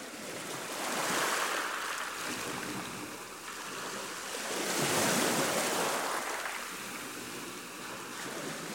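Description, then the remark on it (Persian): Rough sea waves surge and crash in broad, rolling swells, a loud continuous wash of surf rising and falling about every four seconds, with wind rushing through it and no voices. “دریا طوفانی شد، فیلم برداری را به پایان بردیم.”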